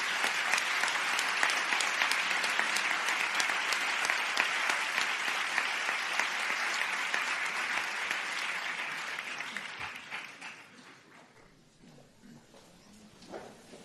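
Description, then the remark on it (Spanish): A crowd claps steadily in a dense, sustained wave of applause for about ten seconds, then it thins out and fades to a few scattered claps, at a university ceremony as new doctors of the Industrial Technologies and Telecommunication doctoral programme stand on stage with their sponsor. “Y el aplauso también para ellos.”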